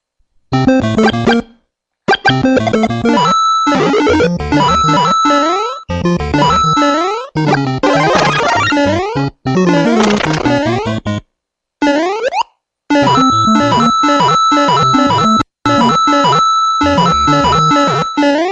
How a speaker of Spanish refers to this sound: Bueno, aquí quiero resaltar una cosa, y es que para un espectador esto puede ser un poco molesto, oír una y otra vez ese sonidito de las monedas, ¿cierto? Puede ser, pues sí, fastidioso.